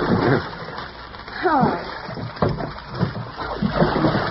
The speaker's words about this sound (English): Darling, look. He's going to push the boat with a pole, just like a gondolier in Venice.